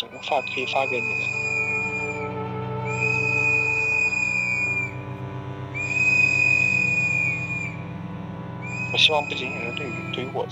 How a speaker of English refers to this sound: People stood outside the hospital, blowing whistles in solidarity. It was such a powerful thing to see. I took a video of it.